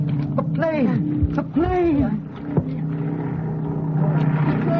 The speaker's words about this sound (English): A plane. They started yelling at the plane.